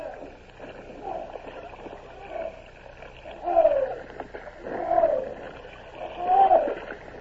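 Oars pull through water in a slow, steady rhythm as barges and a bomb ketch are rowed at dawn, each stroke bringing a splash and a wooden creak, the last three strokes louder over a low ambient rumble.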